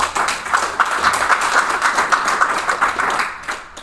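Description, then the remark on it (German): A crowd claps steadily for a few seconds, a dense, even patter of many hands that holds at a fairly loud level and thins out briefly near the end; the audience claps to answer whether they still throw away too much food. “Einmal bitte klatschen.”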